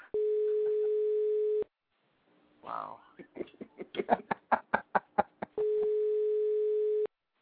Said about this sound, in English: What is with the beeping sound? Is this some alien force trying to contact us through this show?